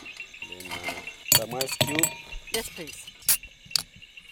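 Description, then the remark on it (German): Gin, tonic water, lemon slices, ice cubes and cups are set down one after another on a Jeep's hood at the end of a safari in Zambia, giving several sharp clinks and knocks while a man talks and insects chirp steadily in the background. “stellt Gin und Tonic Water, Zitronenscheibchen und Eiswürfel auf die Kühlerhaube des Jeeps und Becher hat er auch dabei.”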